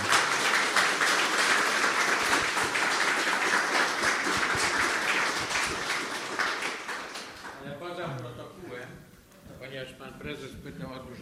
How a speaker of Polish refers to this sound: Bardzo Państwu dziękuję za wszystkie pytania. Oklaski dla autora, jak sądzę.